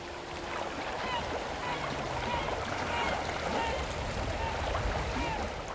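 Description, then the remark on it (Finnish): A steady seaside soundscape of washing water and surf noise, with faint bird-like chirps and murmuring in the background, continuous and moderately loud throughout; played through headphones from iPods served with the oyster dish Sounds of the Sea at the English Fat Duck restaurant. “Kuulokkeista kuuluu merellinen äänimaise.”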